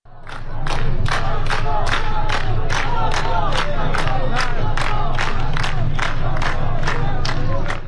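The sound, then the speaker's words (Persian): A large night-time protest crowd in Behbahan, Iran, chants slogans such as "Reza Shah, may your soul rest in peace" in unison, loud and steady, with sharp rhythmic accents about twice a second, over a continuous low rumble of many voices. “رضا شاه روحت شاد یکی دیگر از شعارهایی بود که شب گذشته در فیلم های مربوط به بهبهان شنیده شد.”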